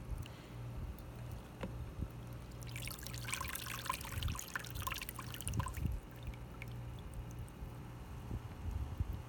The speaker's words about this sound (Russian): щепки я замочил, чтобы они, ну сколько, минут 10, наверное, я их оставляю в воде, чтобы они впитали в себя влагу. И тем самым, когда я их выложу на угли, а вы сейчас вот увидите, они не сгорят моментально. Я просто сливаю воду одной рукой.